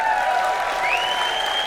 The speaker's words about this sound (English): Thank you, Dad. Thank you, folks. I appreciate that applause.